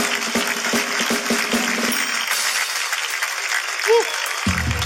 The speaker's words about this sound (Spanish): Un fuerte aplauso para mi amiga. Fuerte el aplauso.